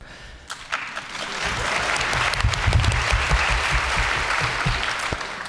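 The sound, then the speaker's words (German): An audience claps steadily for several seconds, a dense patter of many hands that swells after the first second and stays fairly loud before easing slightly at the end. “Also Applaus für das Projekt Facebook, das wir einbinden.”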